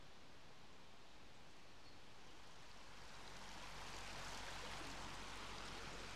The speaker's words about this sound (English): The River Dove is by no means a large river. In fact, I'd probably go as far as saying it's more like a large stream than a river. It's snaking its way down off the moors from above Farndale,